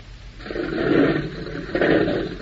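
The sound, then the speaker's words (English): A propeller plane engine starts up after its propeller is spun by hand and it is switched on, a rough, low roaring drone that swells loudly twice over a couple of seconds, with no voices; the engine is being warmed up. “Whammy, she turns over. Listen to her purr.”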